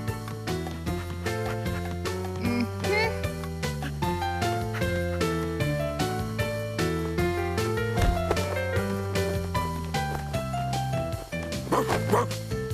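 A big red dog barks and yips over and over in quick, steady bursts, fairly loud, with a sustained musical backdrop running underneath.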